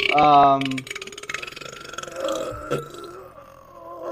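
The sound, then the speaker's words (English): A loud burp with a deep, buzzy, harmonic tone lasts under a second, followed by quieter murmuring and background voices. “That burp was pretty good though.”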